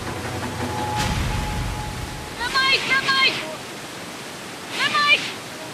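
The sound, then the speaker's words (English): A raging waterfall on a river in South Africa, where an amateur kayaker has had a mishap, gives a steady, loud roar of rushing water that fills the whole stretch, with two bursts of a raised, shouting voice cutting through it partway along. “clinging to life after a mishap on a raging waterfall.”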